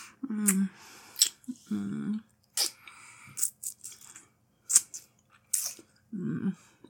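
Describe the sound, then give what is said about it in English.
Wet mouth sounds of sucking and slurping, repeated in irregular bursts with short pauses, intimate and moderately quiet, with no one speaking. “Just sucking and slurping you.”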